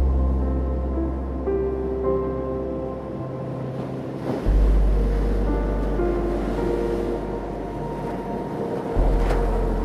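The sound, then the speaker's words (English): Gentle ocean waves wash in and recede in slow, rolling surges, a soft continuous hiss of water with low swells, accompanied by faint sustained tones underneath and no voices. “Feel the welcoming water gently lap against your body, cradling you and protecting you as you move up and down.”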